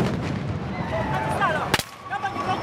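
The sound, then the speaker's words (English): A single sharp, loud bang of police firing tear gas into a dense, noisy crowd of supporters of opposition candidate Kizza Besigye during street clashes in Kampala, Uganda, ahead of an election, with shouting voices and a few high whistles before and after the shot. “The sound of police firing tear gas into crowds supporting opposition candidate Kizza Besigye, who was briefly detained.”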